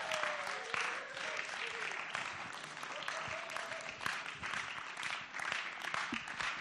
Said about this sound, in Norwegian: Vi gir dem en applaus.